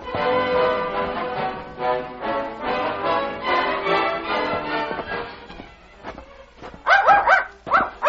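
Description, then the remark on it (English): A small dog belonging to Fritz Schultz, leading people down the street, whines and whimpers in a long, high, wavering stretch, then lets out several sharp, yappy barks in quick bursts toward the end. “This is long way for such little dog to go.”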